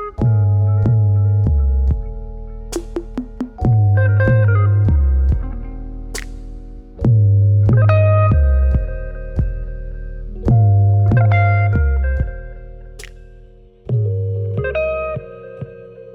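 An electric guitar plays a slow, echoing melody drenched in reverb, adapting a melody first played on synthesizer, with phrases returning every few seconds over deep, sustained low notes, loud with no voices.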